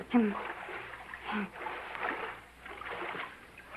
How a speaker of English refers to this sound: We don't have any ice. I must put them in water.